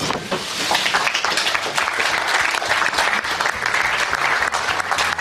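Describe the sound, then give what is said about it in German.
A crowd claps steadily for about five seconds at the announcement that Germany will host Euro 2024. It is a dense, even patter of applause that never builds into cheering or whistles, sounding polite and somewhat subdued. No one speaks. “Ein bisschen lahm war er, dieser Applaus damals bei der Verkündung, dass Deutschland die EM bekommt”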